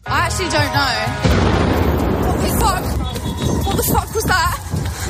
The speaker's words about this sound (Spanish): Y susto el que se acaba de vivir en Times Square, en Nueva York, tras la explosión de tres alcantarillas de forma simultánea que han provocado que la multitud corriera ante la incertidumbre de no saber qué estaba pasando.